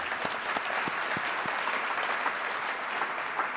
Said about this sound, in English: I want to thank the anonymous... Yeah, we can clap for them.